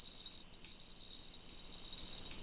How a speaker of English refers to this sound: Crickets and katydids, unlike other insects, are making all this noise. All these different parasites have figured out, if this kind of thing is calling, go there, and there's your baby, and they'll nail them.